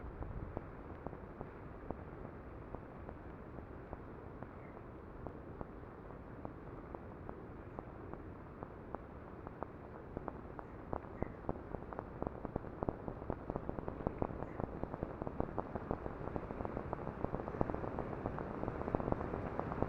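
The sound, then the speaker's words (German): Electroacoustic radio art piece, Echoes of the Big Bang, produced by a group of radio art students at the Institute for Electroacoustics for Kunstradio: dense, crackling cosmic static fills the whole stretch, a dark hiss dotted with countless sharp clicks and pops that grows slightly louder toward the end, with no voices. “ist ein ganz kurzes Statement und illustriert mit einem Klang, den ich mit einer Gruppe meiner Studentinnen der Radiokunst am Institut für Elektroakustik für das Kunstradio produziert habe, die Echoes of the Big Bang.”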